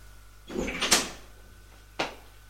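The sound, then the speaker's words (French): A door is opened: a brief scraping swing ending in a sharp latch click, followed a second later by another crisp knock. Moderately loud against a quiet background, with no voices. “L'ouvre.”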